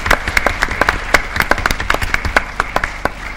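An audience at a Mend UK event applauds, with many overlapping claps forming a dense, steady patter of sharp, crisp hits that holds at an even, fairly loud level for a few seconds, with no one speaking.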